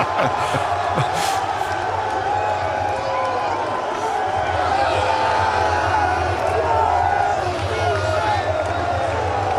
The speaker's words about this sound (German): Gleich wird Jubel ausbrechen, denn Bayer Leverkusen ist mit 4:0 in Führung gegangen.